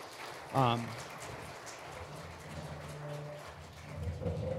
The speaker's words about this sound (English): If you guys want to give these guys a round of applause and tell them thanks, I appreciate it.